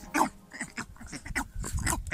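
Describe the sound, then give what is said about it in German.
A northern bald ibis, a goose-sized bird with black plumage, gives a string of harsh, guttural croaking calls, raspy and grunt-like, repeated irregularly at a fairly loud level with no talking over them. “Der Waldrappen. Ein cooler Vogel.”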